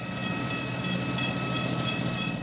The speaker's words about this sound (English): Eventually, the train would pass, the gate crossing would rise, and a bolus of cars would cautiously cross the uneven tracks.